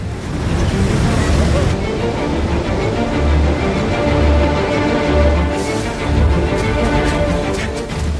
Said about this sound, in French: J'ai aimé aussi l'action dans le film, avec la scène du tsunami. Les vagues sont impressionnantes dans la tempête, tout comme les bruits.